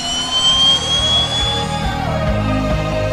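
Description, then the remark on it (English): A loud, steady jet engine roar fills the whole moment, a deep rumble layered with thin, high whining tones, continuous with no voices. “Washington jet drivers love Issues Etc.”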